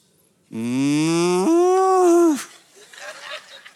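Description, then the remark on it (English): A man's voice imitates a cow mooing: one loud, drawn-out moo lasting about two seconds that steps up in pitch midway, then gives way to faint murmur. “Cows,”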